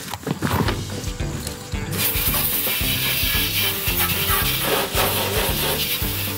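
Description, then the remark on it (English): A steady, loud hiss of water spraying to clean a dirty motorcycle, including its tank, continuous and rushing, with a rhythmic low musical backing underneath and no one speaking. “Run over here, let's spray this thing off real quick and see what we're actually working with.”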